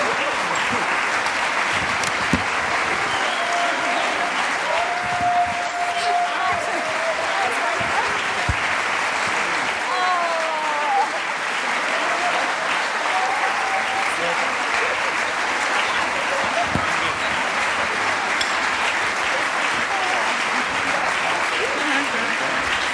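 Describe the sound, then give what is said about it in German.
Sustained audience applause for a program team called onto the stage fills the whole stretch, a dense, steady patter of many hands clapping at even loudness, with a few faint voices calling out over it. “Nicht aufhören zu klatschen.”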